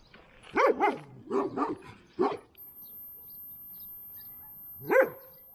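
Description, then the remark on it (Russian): A dog barks several times in a quick irregular burst, then falls silent before one final sharp bark near the end; the barks are clear, with no talking. “Этот пес проходил полностью все обучение с кинологом.”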